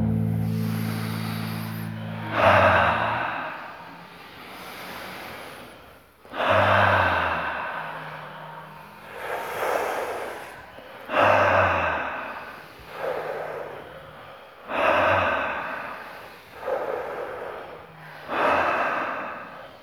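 Slow, deep breaths in and out repeat in a steady cycle at the breather's own pace, each long inhale rushing in and followed by a letting-go release, loud, about five full breaths with no talking.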